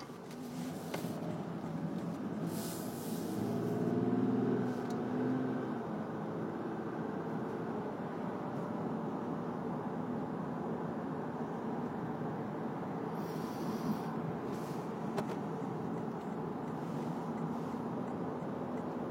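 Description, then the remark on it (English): Steady rumble of road traffic, outdoors in temperatures in the high 40s, with one car swelling a little louder as it passes early on before the even, continuous noise of vehicles carries on, no voices. “Okay, cars. Here we go, cars.”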